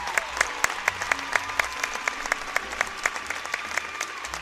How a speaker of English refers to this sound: So give this theater group a round of applause. They learned quite a bit today.